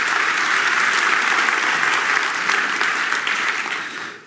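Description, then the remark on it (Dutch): Sustained audience applause, a dense wash of many hands clapping at steady loudness, thinning and fading out over the last second. No voices are heard. “Een applaus, dat is wel goed, ja.”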